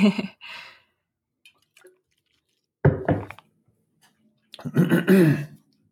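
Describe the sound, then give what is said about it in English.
Someone drinks water, with a few separate gulps and swallows spaced over several seconds, the last ending in a breathy, satisfied exhale. No one speaks. “I'm going to have a little bit more water.”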